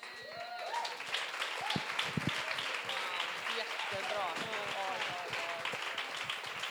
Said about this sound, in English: Sí, dale un aplauso porque se lo merece. Yes, give her a hand clap because she deserves it.